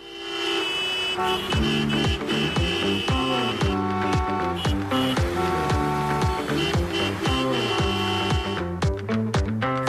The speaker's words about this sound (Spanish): Es la previsión meteorológica que nos da paso a este sonido del coche.